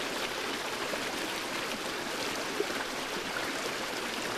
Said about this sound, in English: Allow the sound of the water to rush through your lungs. Vibration through your lungs.